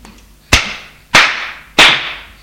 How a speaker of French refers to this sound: Il la gifle. La gifle.